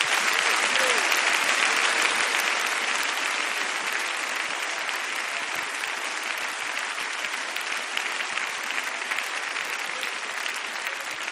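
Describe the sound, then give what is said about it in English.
A large group at an apostolic fellowship meeting claps steadily for several seconds, a dense, sustained wash of applause that tapers only slightly toward the end, with no voices standing out. “Clap your hands if you know God's been good to you.”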